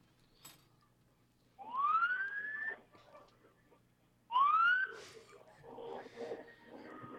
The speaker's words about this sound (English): The parade is about to begin. Everyone's excited. Well, you know what? Let me stop talking and I'll let you guys hear what's going on. We can hear the sirens. Wow. It's starting.